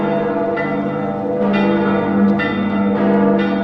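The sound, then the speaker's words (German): All the church bells of a city peal together at 21:28 on the anniversary of the city's destruction, in a full, continuous wash of overlapping tones, with fresh strikes cutting in every second or so. The ringing is loud and steady, with no voices. “Später um 21 Uhr wird im Dom eine ökumenische Abendandacht gefeiert, ehe um 21.28 Uhr traditionell alle Glocken der Stadt läuten.”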